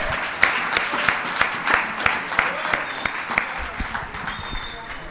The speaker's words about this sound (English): The unsung heroes of this weekend are the Fellowship of the Spirit Committee, the guys that put this thing together. So let's all give them a round of applause.